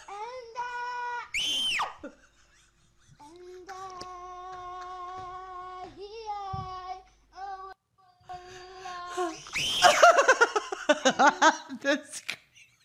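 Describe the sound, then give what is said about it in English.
High-pitched, drawn-out screams play from a video, several long wavering cries in a row, ending in a louder burst of rapid, choppy shrieks. “The screaming is so funny.”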